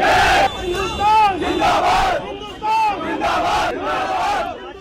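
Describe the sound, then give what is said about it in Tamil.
A group of lawyers arriving in front of the Patiala court chants patriotic slogans in unison, loud and forceful, the shouted phrases rising in rhythmic bursts about every second with brief dips between them. “அப்போது வழக்கறிஞர்களின் குழு ஒன்று தேசபக்தி முழக்கங்களுடன் அங்கு வந்தனர்.”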